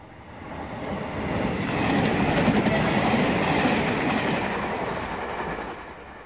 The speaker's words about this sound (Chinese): 我想话你知，架火车过山窿好黑噶。